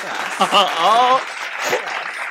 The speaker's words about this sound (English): Claps for us.